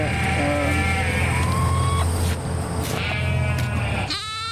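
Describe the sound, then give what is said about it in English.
Several sheep on a co-op farm in Quebec bleat in overlapping, wavering calls, one after another, over a steady low rumble like an engine or wind, with a sharper buzzy bleat at the end. “You want to see the sheep over here?”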